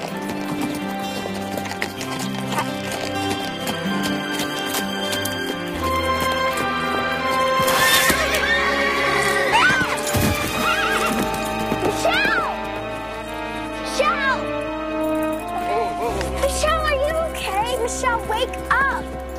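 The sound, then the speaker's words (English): A ridden horse gallops past with steady, rhythmic clip-clopping hooves and lets out a whinny partway through, fairly loud against a busy, continuous tonal background. “She fell off her horse!”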